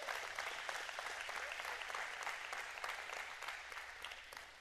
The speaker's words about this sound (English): Come on, let's give God a hand clap this morning.